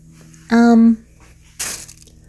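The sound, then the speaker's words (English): A short, bright crinkle of a plastic bag lying on the floor rustles once, just after a brief hummed vocal sound; otherwise quiet. “Sorry, there's a plastic bag on the floor from last night.”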